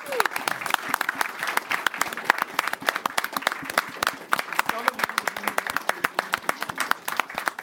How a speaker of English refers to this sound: So how about a round of applause for the national champs? Yay.